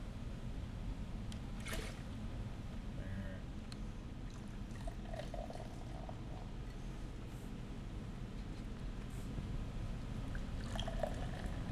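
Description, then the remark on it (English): Stout beer, 8% alcohol by volume, poured from a height out of a can into a glass, a steady splashing and foaming rush that runs unbroken for about twelve seconds, with no talking. “I'm a big believer in high pours.”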